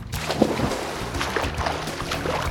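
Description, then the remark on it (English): A splash as a boy, having taken off his shirt, jumps into a river, followed by steady sloshing and churning water that continues for a couple of seconds with no voices. “Boy takes off his shirt and jumps in the river.”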